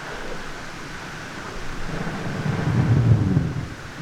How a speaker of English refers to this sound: The recording that you're listening to here, it has a lot of noise, or what appears to be static, and you have to think of millions and millions, if not billions, of bubbles from brash ice floating around the surface as that melts.